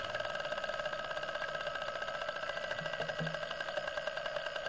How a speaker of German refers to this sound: Den ganzen Tag lang hat Klaus die Wasserpflanzen aufgenommen, die unermüdlich Luftbläschen von sich gaben. Je kräftiger die Sonne schien, umso mehr Bläschen spuckten sie aus und umso lauter wurden die Geräusche.